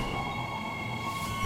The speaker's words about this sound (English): In the daytime, a train pulls into a station.